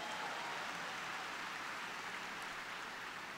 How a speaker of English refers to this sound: To her outstanding foundation chair, Kendrick Meek, please give them a round of applause.